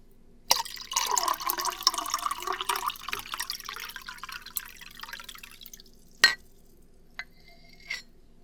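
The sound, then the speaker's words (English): Water pours steadily into a glass for several seconds, the pitch rising as it fills, then stops, followed by a couple of soft clinks and light handling sounds. “Here, I'll just pour you a glass.”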